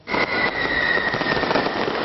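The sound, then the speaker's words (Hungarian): Fireworks crackle and pop in a dense, continuous barrage at New Year's in Csíkszereda, Transylvania, with no single bang standing out. A steady high ringing tone runs underneath throughout. “Barangzúgás, tűzijáték, utcai pezsgőzés.”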